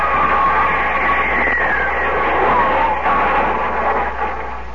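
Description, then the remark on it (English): A meteor roars overhead with a loud, rushing whoosh and a falling whistle-like tone, then crashes to the ground, set against dense, constant noise that fades slightly at the end. No voices. “It's coming right at us. Where? What? Hey, look out!”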